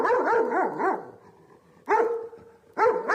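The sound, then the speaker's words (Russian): Dogs bark from behind a grating that closes off a passage where overgrown railway tracks run out, in three loud bursts, their yelping, wavering cries rising and falling in pitch, with short quieter gaps between bursts and no voices. “Похоже на край локации в игре «Сталкер», из-за решетки доносится лай собак.”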